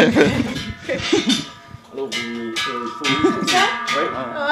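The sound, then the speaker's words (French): Cowbells being tried out and swung forward and back clang repeatedly in a loose, overlapping jangle, bright metallic tones ringing out with steady loudness, a few stronger strikes standing out; some breathy vocal sounds mix in underneath. “J'essaie les cloches, vous essayez le micro.”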